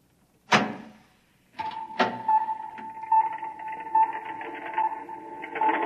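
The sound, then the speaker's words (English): A door opens with a sharp clunk, then a second clank as a steady mechanical whir with a humming tone starts and keeps running, fairly loud, with no voices. “Open the door.”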